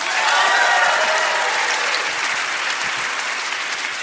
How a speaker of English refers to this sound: And also, of course, here with us, the most important part, as listeners at home can hear, is our live audience. So give yourselves a round of applause. Thanks for coming out tonight.